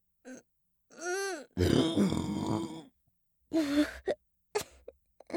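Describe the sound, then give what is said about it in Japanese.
A string of burps, one long, rough and gravelly, with shorter throaty belches and small gulps before and after, alone with no talking, fairly loud with pauses between them. “はしたなくゲップが出ちゃいましたわ。”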